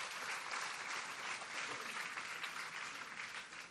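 A large audience claps together in sustained, dense applause as a clap offering to God at a Victory church service, steady and loud throughout, with no clear voices rising above the crowd of hands.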